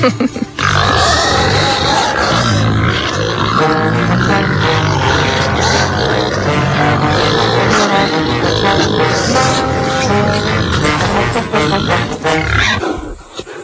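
Small Gascon black pigs grunting and snorting continuously, a loud, dense tangle of overlapping low grunts and higher squeals lasting throughout, with no talking.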